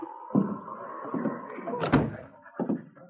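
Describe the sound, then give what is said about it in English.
A door clatters and thuds several times as a man strides through a cafe's bar room and opens the door to the owner's office: a sharp knock-like hit near the start, a louder bang about two-thirds through, and a final thump, with a faint steady hum underneath. “opened the door to Broderick's office”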